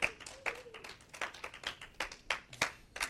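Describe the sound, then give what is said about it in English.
An audience at a Barah Ministries service claps in steady, overlapping bursts, a few sharper claps standing out against the ongoing patter of hands, with no voices heard. “I can't tell whether you were clapping because I'm not going to say all that stuff”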